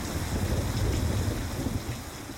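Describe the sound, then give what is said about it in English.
Steady rain hisses across a wide band while a deep, rolling rumble of thunder sits underneath, a continuous, fairly loud stormy wash with no voices. A storm in Panama City Beach. “It's raining. Storming. It's so bad.”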